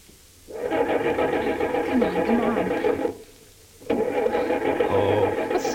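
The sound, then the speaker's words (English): A car engine starts up, roaring in two sustained bursts separated by a brief pause, loud with a rough, steady mechanical drone, as a man who ducked behind a front gate gets away in the car. “Mike started. He's getting away.”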